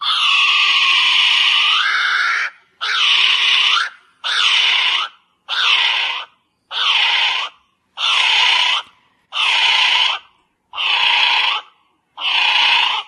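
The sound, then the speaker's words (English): Whipped cream sprays from a can in a long hissing, sputtering burst, then eight shorter loud spurts at a steady rhythm, each a wet fizzing rasp with a wavering, almost bleating tone. “That's ready, whip, whipped cream.”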